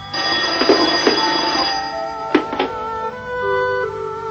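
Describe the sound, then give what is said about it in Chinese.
A public call telephone's bell rings steadily for several seconds, its bright metallic tone sustained throughout, with a few short knocks or clicks partway through and no one speaking. “哎，我是头条传呼电话，您找谁啊？”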